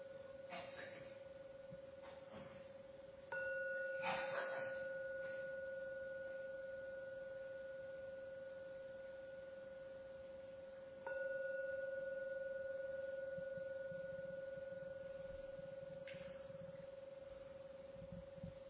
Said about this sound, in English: I'm now going to ring the gong 3 times. Please listen to every sound from that gong. And at the end of the 3rd sound from the gong, that's the signal to slowly open your eyes to end the meditation.